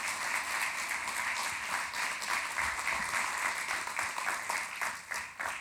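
An audience applauds steadily for a man being called up to the stage, many hands clapping in a dense, continuous patter that stays fairly loud throughout and tapers slightly at the end.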